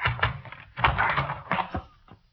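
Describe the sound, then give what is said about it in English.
A door off a hallway being forced open with a shoulder: several heavy thuds with cracking and rattling wood, bunched over about two seconds before fading out. “It was coming out from under her door. I had to use my shoulder.”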